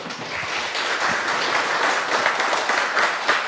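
A crowd applauds steadily, a dense wash of many hands clapping at an even, fairly loud level that holds throughout without pause or voices.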